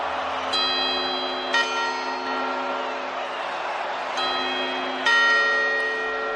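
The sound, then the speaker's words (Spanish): The clock tower bell of the Puerta del Sol in Madrid strikes four times at midnight in uneven succession during a rehearsal of the New Year chimes, each deep ringing chime lingering and overlapping, over a low murmur of a crowd outdoors. “Ayer se hizo el simulacro famoso de las campanadas de la Puerta del Sol de Madrid, que este año permitirá, por cierto, la presencia de 7.000 personas.”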